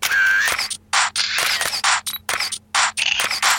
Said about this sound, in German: Scharf ist auch dieser Jingle.